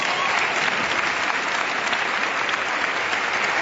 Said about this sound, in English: Well, you just got your big round of applause that I was about to ask for.